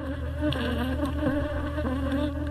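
A dense, steady drone of many honeybees buzzing together, close and continuous, with overlapping wingbeat tones that waver slightly in pitch throughout.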